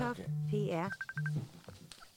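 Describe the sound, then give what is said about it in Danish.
A synthetic Messenger incoming-call ringtone plays: a low sustained tone, a rising warbling sweep, then a quick series of high pulsed beeps, repeating the low tone before fading into faint clicks. “Nå, så ringer han. Ringer han der.”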